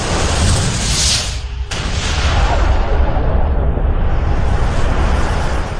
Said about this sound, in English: Follow the clues, and we can deduce that a very long time ago, the universe simply burst into existence. An event called the Big Bang.